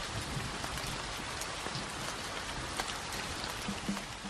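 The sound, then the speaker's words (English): Steady Irish rain pours down in Ireland, a dense continuous hiss with scattered drops tapping on a surface, no voices present. “And keeping our imagery out there and using weather for it, absolutely the time has come for Irish rain, for cool Irish rain.”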